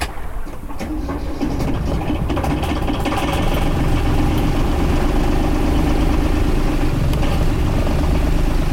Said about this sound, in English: Not only that, but the engine whine is still with me.